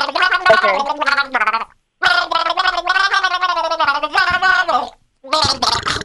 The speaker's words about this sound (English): she's about to gargle.